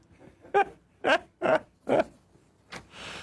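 A dog barks four times in a quick, even rhythm, sharp, followed by a softer, shorter yelp as the sound trails into light background hiss.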